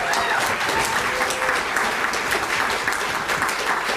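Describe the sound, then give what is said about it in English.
A crowd applauds steadily, a dense wash of many hands clapping at an even, fairly loud level for the full stretch, with a faint murmur of voices underneath. “I knew Keegan Randall would almost get as large of an applause line as my wife”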